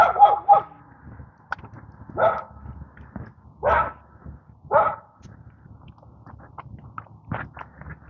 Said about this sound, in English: Bark, bark, bark, bark, bark.